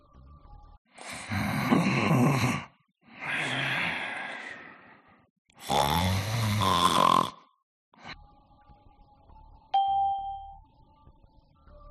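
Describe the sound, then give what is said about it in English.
A sleeping man gives three loud, rasping snores in steady succession, each a long drawn breath with pauses between, followed by a quiet stretch and a single bright ding ringing out at the end. “He's sleeping.”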